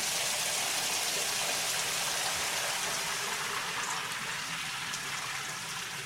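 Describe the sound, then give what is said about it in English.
Shower water runs in a steady, unbroken hiss as a man showers to get ready for work, a dense spray pattering down evenly for the whole stretch with no voices. “Step Back was flashing back on a few games as he got in the shower to get ready for work.”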